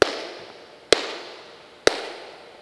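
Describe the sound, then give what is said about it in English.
Three sharp hand claps in the SoundBox room at an even, unhurried pace. Each is followed by a long, washy echo created by a Meyer sound system, which trails away before the next clap. No voices are heard. “I'm going to clap 3 times. You'll hear the echo that's been created by the sound system.”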